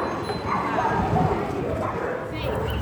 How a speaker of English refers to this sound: Dogs in Naples.